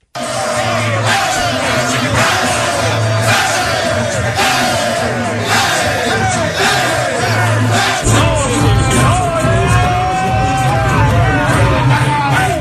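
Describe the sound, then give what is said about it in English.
A loud crowd of men cheering, yelling and whooping together in a locker room, continuous and boisterous, with overlapping shouts and chanting voices that swell louder in the second half. “This is a locker room.”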